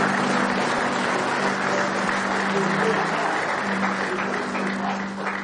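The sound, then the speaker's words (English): An audience claps their hands in praise, a dense, steady wash of applause from many people that holds for several seconds, with faint voices and a low sustained tone beneath. “Give Him one more hand clap of praise tonight if you love Him.”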